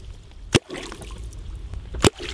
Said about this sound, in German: das nennt sich Wallerholz, und klopfen damit auf Wasser. Das macht ein Geräusch unter der Wasseroberfläche und lockt die Welse, die sich sonst nur am Boden aufhalten, an die Oberfläche, wo sie dann auf den Köder an der Angel hereinfallen.